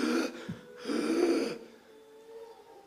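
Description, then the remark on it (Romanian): A person imitates the labored, gasping breathing of a 30-year-old man sick with COVID, heard over the phone: two strained, raspy breaths, the second longer and heavier, then quiet. Fairly loud, with no talking. “Și am auzit la capătul firului un om bolnav de COVID, un om care respira cu greu, care își dorea să-și facă mărturisirea.”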